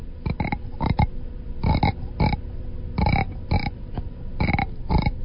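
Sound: frog croaking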